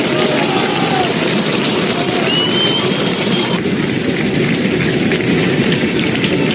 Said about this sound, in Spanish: En Lezama, en el final del entrenamiento, con los aplausos, con el bufandeo, para, bueno, dar ese último apoyo, ese ánimo. Los aficionados que estuvieron y se acercaron hasta las instalaciones de Lezama.